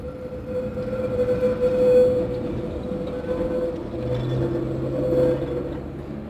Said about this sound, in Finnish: Mä seison helvetin kylmänä kevättalven päivänä Helsingin kadulla ratikkapysäkillä. Kaikki on harmaata ja pohjoistuuli raiskaa kasvoja.